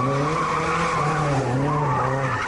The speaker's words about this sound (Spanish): Acelerones, frenazos y conducción temeraria bajo los efectos de las drogas. Lo ha pillado la policía local de madrugada en el Parque Empresarial Principado de Asturias, junto a la Ría.